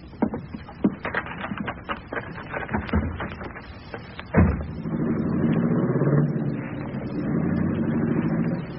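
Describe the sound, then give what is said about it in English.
Scattered clattering and knocks lead to a heavy car door slam, then an engine rumbles up and holds a steady drone as the car pulls away. “Let's get in the car and scram.”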